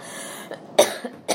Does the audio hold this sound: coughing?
yes